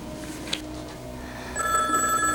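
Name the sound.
telephone ringing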